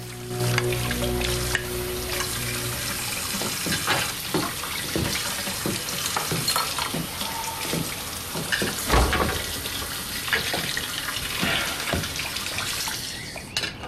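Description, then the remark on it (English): A faucet runs steadily while dishes are washed in a kitchen, with scattered clinks and clatters of plates and utensils knocking together in a sink, no voices. “Next morning, Annie is washing dishes in the kitchen.”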